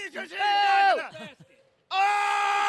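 A crowd cheers and screams as a player fires them up during a shooting contest: loud, high-pitched cheering and screaming in long sustained bursts, breaking off briefly into near quiet before another strong wave of excited yelling starts up.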